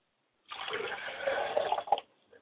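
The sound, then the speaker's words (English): Liquid is poured out as a libation in a steady splashing stream for about a second and a half, then stops, leaving a faint drip. Fairly clear, with no voices. “I pour libations to the north, and I say Ashe.”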